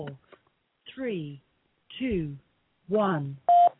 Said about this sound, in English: 4, 3, 2, 1. Hey, there's the beep. Oh, my gosh.